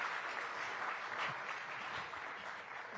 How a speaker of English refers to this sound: Can we give them another round of applause just praising God for amazing Gulf of Durban?